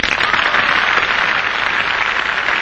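Sustained audience applause, a dense steady wash of many hands clapping at a loud, even level, with no voices over it.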